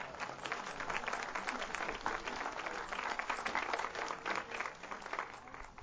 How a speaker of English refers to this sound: About another round of applause for those percussionists back there.